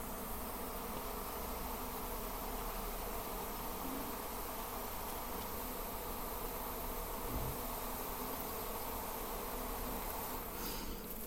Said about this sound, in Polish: Mi ten dźwięk przypomina, jakby tu albo się znalazł jakiś ul z jakimiś pszczołami, albo nie wiem, co jest grane.